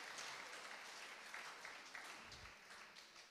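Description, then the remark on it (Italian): An audience applauds for the Lord, a dense continuous wash of many hands clapping steadily at moderate volume with reverberation, with no one speaking over it. “Fatelo questo applauso al Signore, perché quello che sta facendo è quello che sta facendo.”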